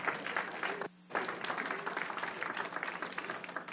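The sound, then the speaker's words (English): An audience breaks into steady applause, a dense wash of many hands clapping that briefly drops out for a moment near the start, then continues evenly at moderate volume. “Well, give my friends here applause.”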